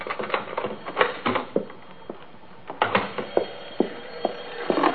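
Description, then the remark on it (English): A key rattles and scrapes in the lock of a front door as it is unlocked at 8:46 p.m., with a string of sharp metallic clicks and jingles at an uneven pace, moderately loud with no voices. “I'd just gotten home from work, and I was unlocking my front door.”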